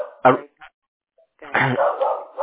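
A dog barks excitedly while someone knocks at the door: one sharp bark, a short yip, then a longer run of agitated barking and whining with no break.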